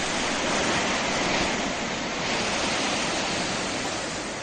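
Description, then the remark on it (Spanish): Heavy storm surf in northern Spain, waves up to 8 metres high crashing over sea walls onto seafront promenades, roars loudly and continuously, a dense wash of crashing water with no distinct pauses between waves and no voices present. “Seguro que has visto las imágenes, esas olas de hasta 8 metros, que saltaban más allá de los diques y que se han adentrado en los paseos marítimos en el norte de la península.”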